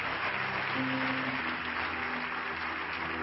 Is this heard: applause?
yes